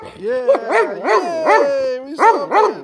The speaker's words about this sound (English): He likes it. Good boy, Rody. Yeah. Bark.